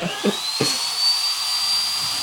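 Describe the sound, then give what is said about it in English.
A high-pitched drill used for dental work whirs steadily for a couple of seconds, its thin whine rising slightly in pitch, with a few soft low thumps at the start and no voices. “I think for a friend here, let's go with the drill.”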